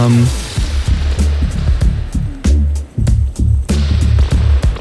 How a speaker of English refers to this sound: That's spring reverb.